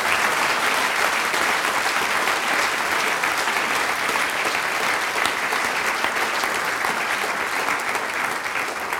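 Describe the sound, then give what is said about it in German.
Sustained applause from a large crowd in a full hall at an event in Kumberg, a dense, steady wash of many hands clapping at an even, loud level with no voices standing out. “denke ich, wenn die Halle so voll ist und alles funktioniert, kriege ich einmal einen Applaus.”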